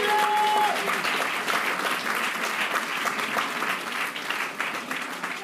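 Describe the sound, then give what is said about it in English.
A large audience claps together in dense, sustained applause for several seconds as a clap of praise to God, loud and steady throughout, with a brief held tone sounding at the very start. “Those who have their hands raised, give God a mighty clap of praise.”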